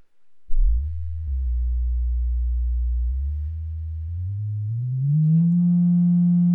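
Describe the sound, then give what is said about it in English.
A single low sung tone held steadily for several seconds, then sliding upward to a higher pitch and sustaining there, loud and humming with rich overtones as the voice hits the room's harmonic frequency and makes the room ring. No talking. “You just need to be on the right wavelength, and you can ring the place.”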